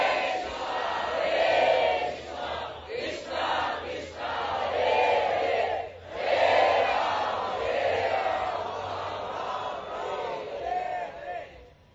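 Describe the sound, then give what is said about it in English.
A large crowd chants the holy names of the Lord together in a loud, continuous roar of many voices, rising and falling in waves with brief dips between phrases, steady throughout. “Sri Gauranga Mahaprabhu was simply dancing in ecstatic love so beautifully with his arms raised, inducing all the millions of people of Ramakeli to chant the holy names of the Lord.”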